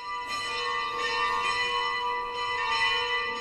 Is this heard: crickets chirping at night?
no